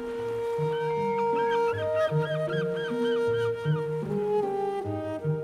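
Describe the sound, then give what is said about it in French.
A dense chorus of black-legged kittiwakes calls at a nesting colony in Brittany, France, heard from about ten metres away, overlapping harsh, honking cries and rapid repeated squeals that never let up. “nous sommes, Alain, à peu près à une dizaine de mètres. Oui, retenez-moi, merci. À une dizaine de mètres des mouettes.”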